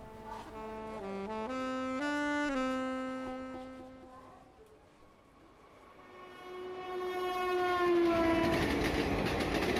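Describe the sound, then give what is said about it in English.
A train rolls by with a rumbling rush as its horn blares in two long, loud blasts, the second swelling louder over the clatter of the passing cars. No one speaks. “Move along with the sounds of the train.”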